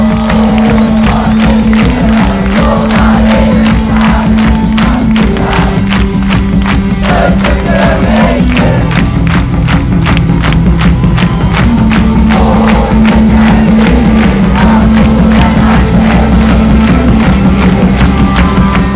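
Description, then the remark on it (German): A large concert crowd claps in a steady, even rhythm while singing along loudly together, the sustained mass of voices carrying a tune over the regular beat of hands. “Wundervoll, geht da noch mehr mit Klatschen und Singen!”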